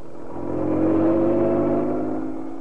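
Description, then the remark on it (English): A car engine roars as it accelerates away at speed, a steady mechanical drone that swells in loudness and then holds strong. No voices are heard. “Inspector Manson and Sergeant Wright left Scotland Yard, careening out of the gates on two wheels, and roared out of London and into Essex”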